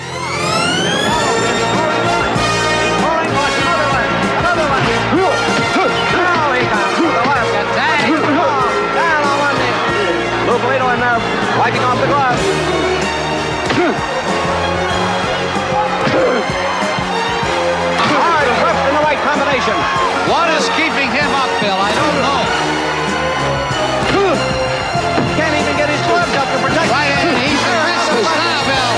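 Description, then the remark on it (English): A packed capacity crowd in a boxing arena, watching two men fight in a boxing ring in the film Rocky, roars and murmurs continuously, a loud, dense wall of voices that stays steady throughout, with shouts and cheers rising out of the din. “Two men, one black, one white, fight in a boxing ring, watched by a capacity crowd.”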